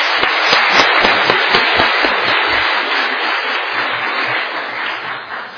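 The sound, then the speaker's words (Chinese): An audience at Taiping Church breaks into warm applause to welcome first-time visitors, many hands clapping in a dense, steady patter that carries on for several seconds and eases off slightly toward the end. No one speaks. “哦，咱热烈的掌声甲欢迎者，啊。”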